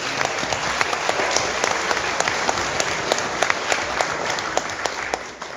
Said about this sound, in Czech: Tak zatleskejte